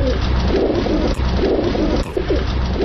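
pigeons cooing

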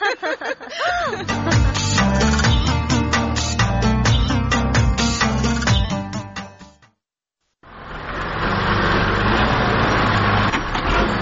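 tractor engine running

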